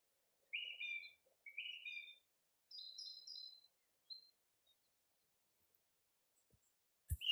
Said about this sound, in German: Die Vögel begrüßen mich. Ja, sie rufen mir zu, willkommen.